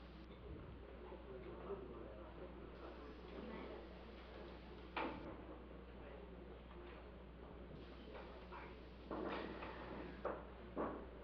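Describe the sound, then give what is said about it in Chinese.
Chairs scrape and knock as they are moved back to their original places at the end of a prayer session, with a sharp bump partway through and a cluster of clatters near the end, over low background murmuring. “如果你在你原来的位置，就把椅子可以搬回来哈。”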